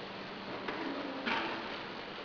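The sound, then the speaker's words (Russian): Motorized curtains, set moving by pressing control buttons, glide with a low, steady mechanical whir, punctuated by two soft clunks as the track moves. The sound is faint, with no one speaking. “Так, это шторы, похоже.”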